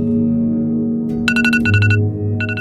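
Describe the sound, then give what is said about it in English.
An Apple smartphone alarm beeps in quick bursts of short, high-pitched electronic tones, pausing briefly between groups, over a steady low humming drone that runs throughout. “The journey began with an alarm beeping on a handset made by Apple”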